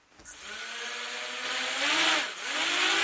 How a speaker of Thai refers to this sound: อากาศยานไร้คนขับหรือโดรนบินร่อนไปทั่วห้องประชุมภายในมหาวิทยาลัยวอชิงตันที่นครซีแอตเทิลรัฐวอชิงตันเพื่อเป็นส่วนหนึ่งของการเรียนการสอนในห้องปฏิบัติการระบบอากาศยานอิสระ